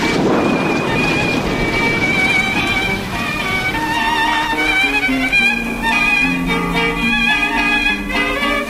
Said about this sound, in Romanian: Să sperăm că vara s-a sfârșit și că în cele din urmă va veni ploaia. Pământul Siciliei e prea ars de secetă. Da, da, a început ploaia.